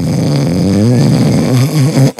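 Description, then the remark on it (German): A voice imitates someone's loud snoring from that morning, one long rumbling, buzzing snore held for about two seconds, then cut off abruptly. “Du hast so laut geschnarcht.”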